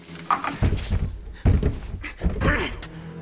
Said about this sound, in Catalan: Luke traba la porta amb un bastó. En Mateu i la monja proven d'obrir-la.